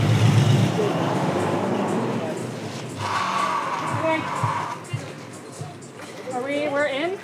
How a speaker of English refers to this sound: Okay, everyone be ready to push the pile in. It's caught on the knot. A bit of regrouping, and the pickup truck gives it one last pull.